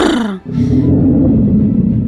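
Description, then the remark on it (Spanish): A person imitates a bear's roar: a loud vocal burst drops in pitch, then settles into a rough, low growl held steadily for well over a second, alone. “Se abre el telón y aparece un oso haciendo...”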